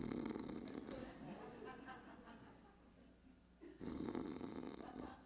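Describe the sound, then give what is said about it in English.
A voice mimics soft snoring: a long, raspy, breathy snore that trails off, a brief pause, then another rough inhale starts up. Gentle, with no words. “he was just snoring, not loud, just, you know, a gentle.”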